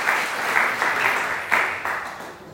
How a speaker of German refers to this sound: Nochmal Applaus